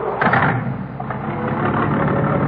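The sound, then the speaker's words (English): A black car rolls through with its engine rumbling steadily, a continuous loud drone with slight swells and no talking. “Next car, Ed.”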